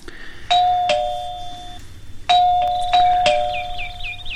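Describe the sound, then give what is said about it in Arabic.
A doorbell rings twice, each press giving a bright two-tone ding-dong with sustained ringing tones that decay slowly, over a faint low hum with no talking. “سأفتح الباب، بالتأكيد هو الصديق الذي سأسافر معه، طلبت منه أن يمر علي.”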